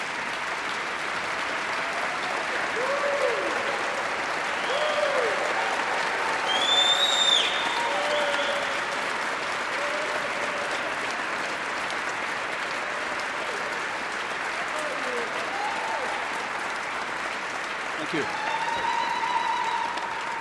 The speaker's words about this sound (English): So as they stand, wave to them, give them some applause because they're a part of the community as well. Let's give our dais a big round of applause. Please stand.